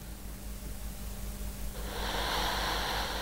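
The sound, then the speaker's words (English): A man's heavy breathing as he sleeps lying on his side with a beanie pulled down over his head, low, with a long airy breath swelling midway through over a faint steady hum. No one speaks. “He's heavy breathing. You can hear that.”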